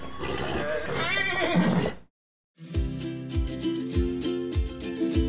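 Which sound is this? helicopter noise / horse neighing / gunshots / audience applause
horse neighing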